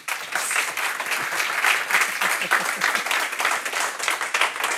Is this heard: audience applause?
yes